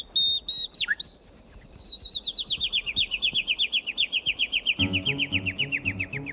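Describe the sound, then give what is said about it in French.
A person whistles an imitation of nightingale song, loud: a sustained bright note with a quick dip, then a long rapid trill of repeated chirps gliding slowly downward, with soft low tones near the end. “C'est un rossignol lumineux.”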